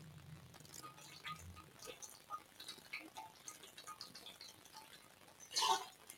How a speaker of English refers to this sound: and if you watch any of our videos, you'll see me sipping on my therapeutic water bottle that has to stay with me at all times, so stand by for 1 second.